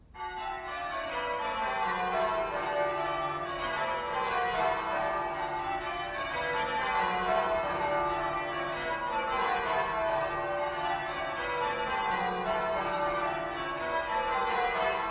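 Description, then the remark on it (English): Church tower bells pealing in English change ringing, a continuous cascade of overlapping bell strikes in shifting orderly patterns, full and resonant, with no voices throughout. “Bells high in a church tower ringing out. This is English change ringing, composed according to strict rules of mathematical permutations.”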